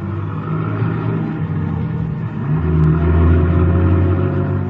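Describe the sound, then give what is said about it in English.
A car starts up in a garage, its engine running with a steady low rumble, then revving louder partway through as the car pulls away. No voices. “Then somebody enters the garage, eases into the car, and we start up.”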